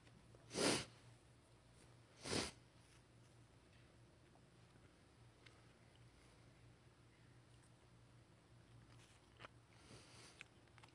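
During a sermon, someone pops a cough drop into their mouth: two brief, sharp rustling bursts a second apart, then near silence with a low steady hum and faint small clicks.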